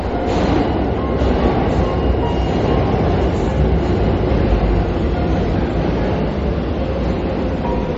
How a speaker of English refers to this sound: Wait a minute, I think I hear a train. I'm here in the middle of nowhere.